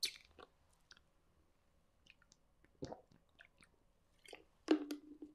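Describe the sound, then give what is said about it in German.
Someone takes a sip of water: quiet wet mouth clicks and soft slurping, then a louder swallow near the end, with no talking. “Ich muss einmal einen Schluck Wasser trinken.”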